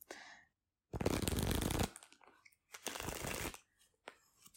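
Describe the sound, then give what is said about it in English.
A deck of playing cards being shuffled: two loud riffling bursts with a brief pause between them, followed by softer card handling and taps, with no talking. “Okay, shuffle your deck up.”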